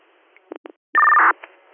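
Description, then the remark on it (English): Telephone dialing tones over a thin, phone-line quality signal: a few short clipped beeps, then a longer, steady two-note touch-tone held for a moment before fading, with no voices. “Made a phone call.”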